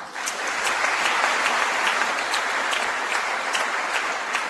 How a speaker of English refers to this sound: Again, Governor Hassan in her speech yesterday, and editing a little bit of the applause just in the interest of time.